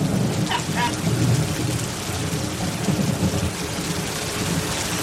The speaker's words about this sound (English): It's really raining. It's really coming down. I didn't think you guys had water here.